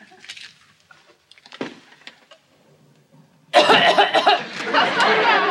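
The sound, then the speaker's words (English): Someone lets out a few short, harsh coughs amid scattered small sounds, then a sudden loud, dense wash of noise takes over for the last couple of seconds. “Better take something for that cough”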